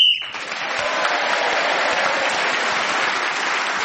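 A short, sharp whistle blast sounds at the very start, ending a panellist's turn in a panel game and gaining Martin Jarvis an extra point, immediately swallowed by loud, sustained applause from an audience that carries on steadily to the end.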